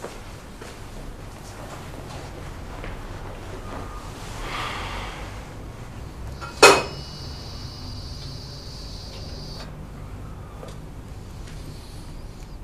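A single sharp clink of china rings out, followed by a few seconds of steady pouring of tea over a quiet hiss; no one speaks.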